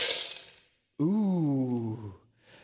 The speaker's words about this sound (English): These people with lots of money would come in, and they would drop their money into the can. And I'll show you into the metal box.